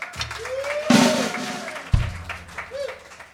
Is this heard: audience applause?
yes